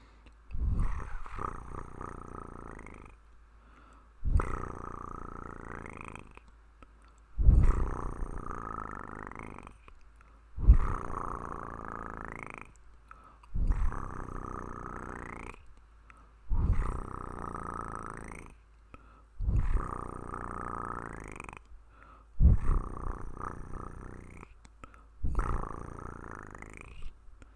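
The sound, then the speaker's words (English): A tigress purrs in deep, rumbling pulses, about nine of them in a steady rhythm roughly every three seconds, each swelling then fading, with brief quiet gaps and no talking. “Let my purring gently vibrate you and lull you.”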